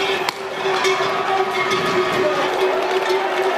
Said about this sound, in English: And they're off. Yes, this is actually bulls deliberately being released into crowds of people.